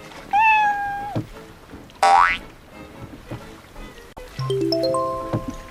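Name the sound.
cat meowing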